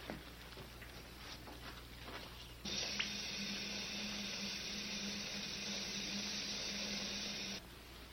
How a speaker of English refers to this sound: Goes over to the water fountain.